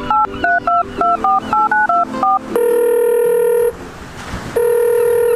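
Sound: phone dialing tones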